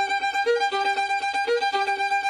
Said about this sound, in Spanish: Pero suena a reloj suizo total. Sí, sí. Al pajarito salir. Pues este es el cuco, uno de los pájaros que va a cantar en nuestro bosque.